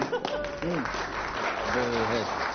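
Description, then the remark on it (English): An audience applauds a quiz player whose three clues were all irrelevant, with steady, dense clapping that fills the whole moment, while a couple of voices call out briefly over the noise. “So I think a round of applause for getting three clues that were nothing to do with it.”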